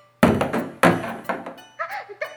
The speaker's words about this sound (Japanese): 大丈夫ですか？すごい音がしましたけど。よかった、シャワーヘッドの音だったんですね。